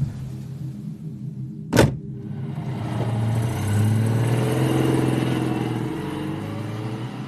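car engine

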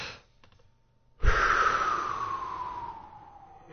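yawn

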